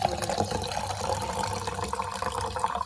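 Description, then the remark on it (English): Liquid Death canned water glugs and splashes steadily as it's poured from a can, fairly loud, for about three seconds with no talking. “Liquid Death. Cheers.”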